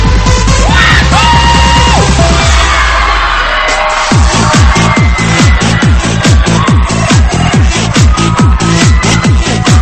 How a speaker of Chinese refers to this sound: 带上你的好朋友一起加入进来，来点尖叫声鼓励一下。